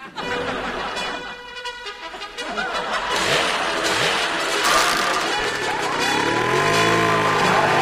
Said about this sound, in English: Whoa! Your sawhorse has an engine? Right. It'll do 160 on the interstate. Listen to this thing idle.